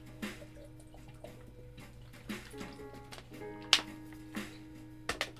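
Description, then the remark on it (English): Water sloshes and splashes in a plastic water bottle as someone gets some water, with a few scattered plastic knocks and one sharper clack over a steady low hum. No one speaks. “Let me get some water.”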